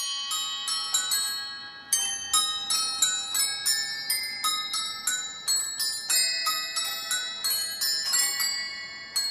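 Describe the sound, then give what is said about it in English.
Many small bells in three rows ring in a steady, mechanical pattern, bright overlapping strikes following one another in quick succession as a hand-turned handle turns three barrels in synchronization, each barrel carrying a separate musical idea, each chime ringing on before the next. “And as you turn the handle, the three barrels turn in synchronization.”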